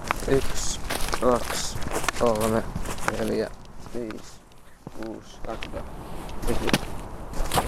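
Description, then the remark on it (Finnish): A steady series of sharp footsteps as a person paces off about 20 metres outdoors to measure a tree's height, with the person talking and counting over much of the walking. “Nyt mä olen ehkä 20 metrin päässä, koska tehdään tää askelmitalla ja askelmitta ei ole koskaan aina täysin sama, mikä se oikeasti on.”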